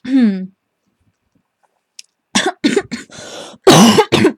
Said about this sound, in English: Of course, the coughing is not such a good part. I need to, like, take a drink.